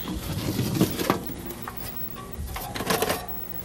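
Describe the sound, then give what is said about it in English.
A drill runs with a steady mechanical whir and rattling clicks, a few sharper clatters breaking through at moderate volume, with no voices. “It's a drill.”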